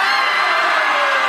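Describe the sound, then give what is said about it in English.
An audience screams together on cue in one loud, sustained burst, many voices blending into a dense wall of yelling that holds steady for over a second. “This is the time to scream. In fact, let's all try it.”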